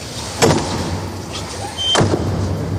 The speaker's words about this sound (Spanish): Acaba de quedar cerrada la puerta de la Capilla Sixtina. El cónclave ya se ha cerrado la puerta de la Capilla Sixtina.